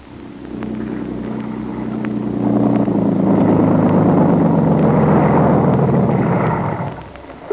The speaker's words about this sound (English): a smooth, sleek motorboat. Soon, the motors are started.